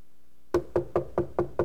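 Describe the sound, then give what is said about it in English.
Six crisp knocks on a wooden door in a steady, even rhythm, fairly loud, following a brief moment of silence. “What are you knocking for?”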